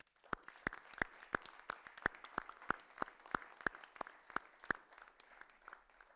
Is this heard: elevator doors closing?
no